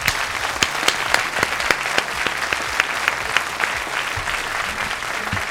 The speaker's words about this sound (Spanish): Un aplauso, por favor.